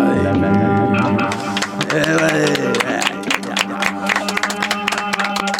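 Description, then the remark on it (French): An audience claps for itself, the applause building into a dense patter of many hands in the latter half, over a steady tonal background of voices or music. “Voilà, des applaudissements pour vous dire qu'il faut venir écrire aux ateliers”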